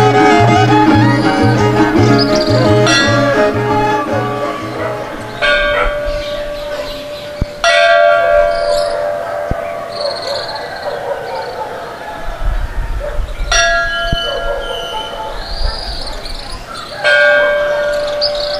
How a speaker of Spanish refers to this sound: los señores o jóvenes que van a estar replicando la campana durante toda la noche del día primero hasta el mediodía del 2 de noviembre.